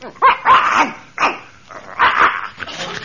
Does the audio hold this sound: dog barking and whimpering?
yes